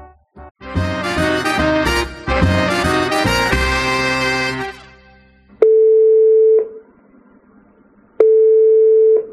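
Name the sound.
telephone call ringing tone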